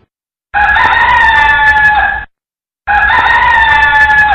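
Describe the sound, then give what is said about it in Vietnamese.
Two loud jungle fowl crows ring out one after another at daybreak, each a long strained call about two seconds, separated by a brief silence with no other sounds. “Tiếng gà rừng gáy buộc bọn quỷ phải ngừng cuộc vui.”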